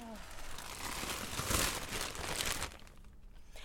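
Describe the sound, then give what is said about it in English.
Busy crinkling and rustling of paper or plastic while someone searches for a book, continuous for several seconds, with brief crackly bursts as things are shuffled about, then tapering off near the end. “There's a lot of rustling going on.”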